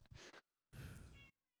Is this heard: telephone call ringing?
no